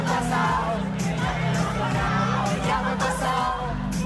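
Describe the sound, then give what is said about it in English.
A large crowd of fans sings along together loudly and continuously at a live concert as the headlining artist joins the crowd, many voices blending into a dense, echoing mass with a steady sustained pitch. “She played piano, danced on high heels, rode a scooter on stage, and even joined the crowd to let fans sing along.”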